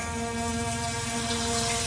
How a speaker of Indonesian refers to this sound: aku dengar suara keran air mengocor dari kamar mandi. Kakakku belum tidur.